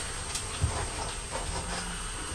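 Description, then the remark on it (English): A mother's voice imitates a steam train's hiss with a steady, breathy 'shhh' that runs for a couple of seconds at moderate loudness, with a small bump partway through and no words spoken. “And Mummy's doing the sound of the steam iron. I mean the steam train.”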